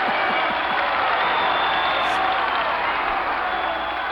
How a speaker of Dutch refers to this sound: Ja, welkom in de studio. Ja. Oh, we krijgen applaus.